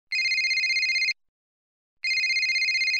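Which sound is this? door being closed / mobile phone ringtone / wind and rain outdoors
mobile phone ringtone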